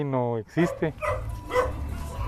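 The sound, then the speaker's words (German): A dog barks a few times in quick succession in a poor neighbourhood bordering the centre of Guatemala's capital, where animals roam everywhere. The first bark is long and tonal, followed by shorter yelps over a steady low background rumble. “Überall laufen Tiere herum, Hühner, Ziegen und Hunde.”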